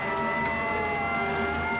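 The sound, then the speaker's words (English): A siren wails steadily with a sustained tonal blare as a truck rumbles past, loud, with no voices heard. “Let that truck through. Get out of the way.”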